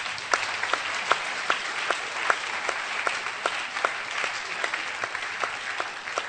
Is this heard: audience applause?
yes